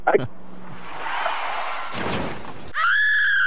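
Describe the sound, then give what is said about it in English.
A car wreck sound effect: an abrupt impact, a rush of noise, then a loud crashing, shattering burst, followed by a sustained high, wavering tone like a scream. “did you guys lose that car wreck sound effect?”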